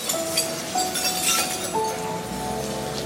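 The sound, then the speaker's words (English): Broken glass that had covered the streets scraping and tinkling as it is swept into piles, with small shards clinking and ringing continuously over a steady gritty hiss, with no voices. “Lots of the glass which had covered the streets like the aftermath of a winter blizzard has been swept into piles.”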